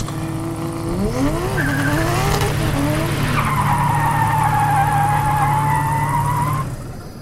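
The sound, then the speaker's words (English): A car's tires screech loudly as it brakes hard, a long, wavering squeal riding over a steady engine rumble for several seconds before it cuts off as the vehicle stops. “Stop the car! Stop the car!”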